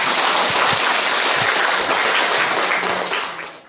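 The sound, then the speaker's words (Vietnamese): An audience breaks into steady applause, a dense wash of many hands clapping at once, holding strong for a few seconds before tapering off at the end. “Đó, vì vậy thôi chúng ta đang cõi Ta Bà, cho một tràng pháo tay đi.”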